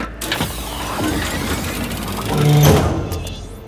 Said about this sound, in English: Door's opening.